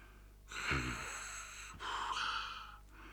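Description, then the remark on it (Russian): A voice imitates a man snoring: two drawn-out, rasping breaths in close succession, fairly loud, with no speech around them. “Храпел он.”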